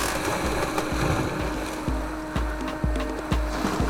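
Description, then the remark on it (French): Water sounds with a steady wash of surf-like noise and regular low thuds, as small waves break and slap repeatedly against something, in calm weather with about 3 knots of wind, with no one talking. “C'est quand la vague déferle. C'est un point de rupture. Là. C'est une vague.”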